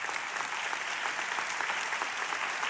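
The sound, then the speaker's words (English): An audience claps steadily, a dense, even wash of many hands with no single claps standing out, holding at a constant level throughout without voices. “You can clap at that.”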